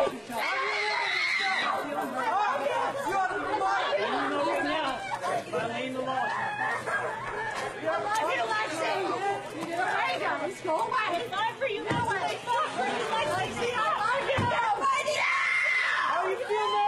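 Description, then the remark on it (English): Several foster children yell and scream over one another for their foster mother to come back, in a continuous, chaotic clamor, with high-pitched shrieks rising above overlapping shouting voices throughout. “The mother comes out with a bunch of the other foster kids who are all yelling for her because they want her to come back”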